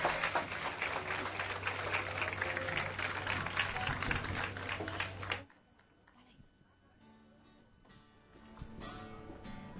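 A crowd applauds a singer at a live performance, with a dense, steady patter of many hands clapping over a low hum for about five seconds, then the clapping cuts off abruptly, leaving quieter scattered background noise.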